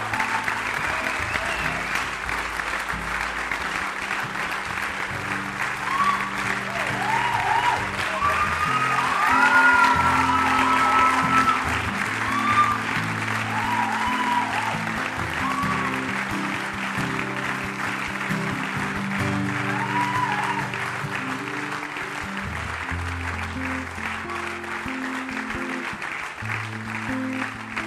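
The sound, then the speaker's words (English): A church audience claps steadily for close to half a minute as people step forward to the front to be prayed with, a dense, sustained wash of many hands with faint voices and cheers mixed in, swelling slightly around the middle. “Say for your sake, you know why we're clapping?”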